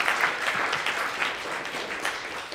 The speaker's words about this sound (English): How about a cheer for Muhammad Ali?